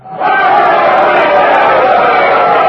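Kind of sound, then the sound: crowd, crowd cheering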